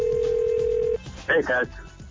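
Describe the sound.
A steady electronic ringback tone from an outgoing phone call, a staged prank butt dial to a dad, sounds for about a second, then cuts off as a brief voice answers on the line.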